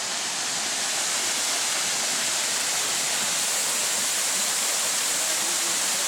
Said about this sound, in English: Okay, so we're here at a really pretty waterfall. But we're going to make the waterfall even prettier.